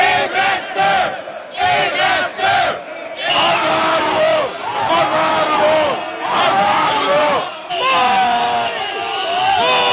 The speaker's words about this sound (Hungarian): A skandáló tömeg később a Nemzeti Múzeumhoz vonult, ahol a hivatalos ünnepségek folytatódtak. Ekkorra már több 100-an kiabáltak kormányellenes jelszavakat.